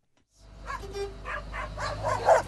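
A dog barks repeatedly in a quick, uneven series of sharp barks over the steady low engine rumble of a UPS delivery truck in rural Pennsylvania.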